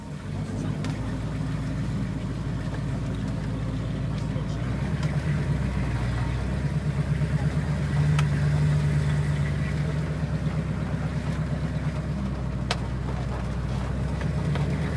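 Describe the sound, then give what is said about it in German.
The engine of a car rated at 345 SAE horsepower idles, a steady, deep rumble with a low throb that holds evenly for the whole stretch, fairly loud and unbroken. “Lass mal laufen.”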